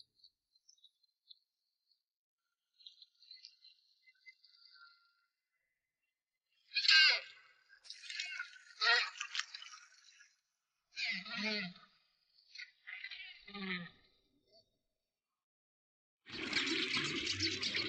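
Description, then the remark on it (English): A female rockhopper penguin showers: water splashes and sloshes in irregular bursts with short pauses between, building to a steady rushing spray at the end, over faint background hiss. “Shower done and looking her best, the female rock hopper is now ready to find Mr.”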